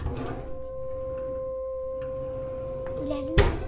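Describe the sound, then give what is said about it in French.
An oven hums with a steady electrical drone, an even tone that holds throughout, broken near the end by a sharp click as it is switched on. “Le four.”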